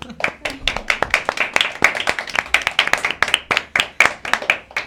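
A small group claps steadily for several seconds, sharp overlapping hand claps in a quick irregular rhythm, moderately loud, with no talking.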